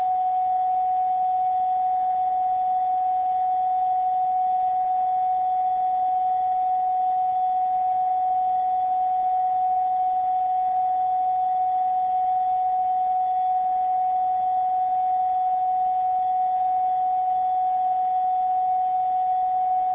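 A steady, unwavering mid-pitched carrier tone, switched on by someone on the radio channel, hums through a radio receiver for the whole stretch, sitting over a bed of soft static hiss with no voices.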